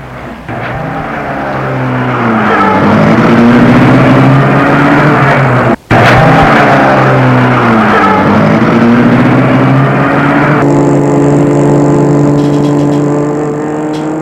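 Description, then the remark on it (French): A man gets into a car and starts it; the engine accelerates hard, its loud roar climbing in pitch through several gear changes as the vehicle speeds away. No one speaks. “Quoique Sweetie a été mise dans la voiture, il rentre lui aussi et met la voiture en route.”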